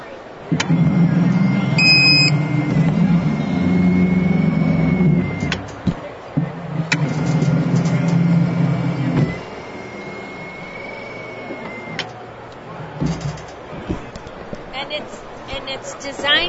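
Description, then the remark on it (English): A motorized evacuation stair device grinds down a staircase in steady mechanical rumbles, clunking on each step every few seconds, with a brief electronic warning beep near the start signalling that the device is being held 2 degrees off. “Can I get some sound of the device going down the stairs?”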